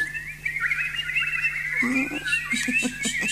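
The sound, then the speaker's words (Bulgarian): Birds chirp in reply in a steady, high warbling stream, then break into a quick run of harsher, squawky calls near the end. No one speaks. “Птици мои, да помогнем ли на момичето?”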